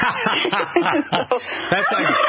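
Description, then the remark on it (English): A voice imitates turkeys gobbling: a continuous, rapid, warbling burble of gobbles, loud, running for a couple of seconds with chuckle-like pulses. “And 25,000 turkeys gobbled the rest of the day.”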